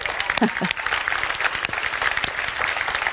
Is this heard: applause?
yes